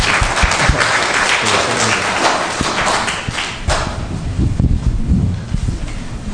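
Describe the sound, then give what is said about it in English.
An audience claps steadily for several seconds for two seventh-grade students called up, a dense, loud patter of many hands with scattered sharper claps standing out, and no voices over it. “Let's clap for them.”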